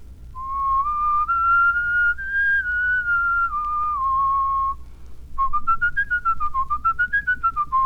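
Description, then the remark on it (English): A person whistles a clear, plain melody as a whistling exercise, first legato in smooth connected notes that step up and back down, then after a brief pause staccato, in a bouncier, more rapid run of short, separated notes rising and falling. “You'll notice that this is just a plain whistle.”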